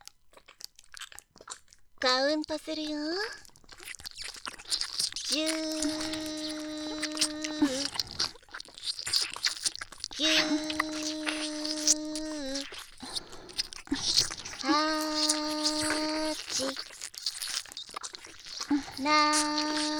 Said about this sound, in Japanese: 私たちは、その間耳舐めしてあげるね。もちろん、乳首舐めも一緒に。